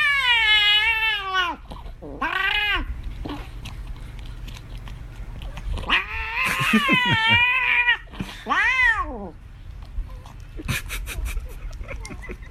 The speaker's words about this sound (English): Here is a cat that really sounds like he was possessed by Satan himself. Don't take this cat's treat away.